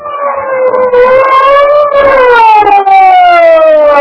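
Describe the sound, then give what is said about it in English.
A loud police car siren wails as the big police car arrives at a barricade around the Skylight Club building, its pitch rising and then slowly falling in one continuous sweep, with no voices over it. “The big police car came to a halt at the edge of a live barricade thrown around the Skylight Club building.”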